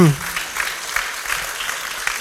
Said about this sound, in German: Ich merke schon an Ihrem Applaus, dass Sie die prägnante Art, wie naja.